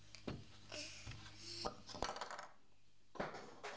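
A tower of toy blocks is knocked over and clatters onto the floor in a burst of sharp, hard knocks, several quick impacts followed by a few scattered clacks as pieces settle.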